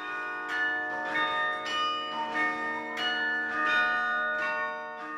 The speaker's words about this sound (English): For 80 years, the YMCA had a secret. For all that time, their carillon was one bell short, with 35 instead of 36 bells.